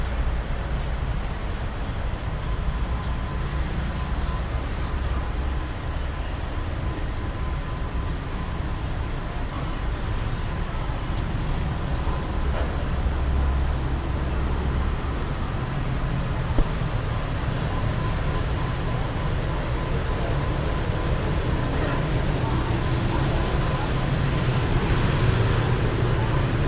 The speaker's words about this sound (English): Yeah, and that's the traffic.